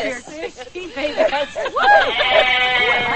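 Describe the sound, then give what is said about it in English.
Several sheep bleat in short, wavering calls, a few in quick succession, over a steady murmur of background chatter from a crowd. “I want to go see the sheep.”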